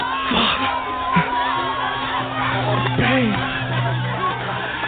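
A dense crowd of marchers in the street roars and shouts continuously, with overlapping yells and whoops rising above a steady wash of voices, plus a low sustained hum running underneath throughout.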